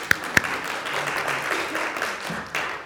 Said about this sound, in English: So if you've ever spoken on a panel or spoken as a single speaker, will you just stand up? I know there's a lane. Yeah. All right, we'll give them a little clap.